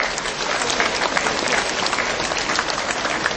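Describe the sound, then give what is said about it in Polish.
An audience at a gathering of children's rosary circles before Our Lady of Tuchów applauds steadily for those watching on Telewizja Trwam and listening on Radio Maryja, a dense, even wash of many hands clapping at a fairly loud level throughout, with no voices standing out. “Brawa dla nich!”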